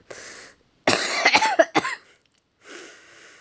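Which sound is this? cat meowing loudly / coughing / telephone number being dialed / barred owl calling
coughing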